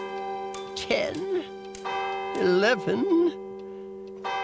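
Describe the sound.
A clock strikes twelve at midnight with resonant, sustained bell tones that hang steadily throughout, while a voice speaks over the ringing in a few short bursts.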